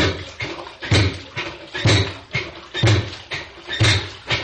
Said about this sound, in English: And they tried the washing machine.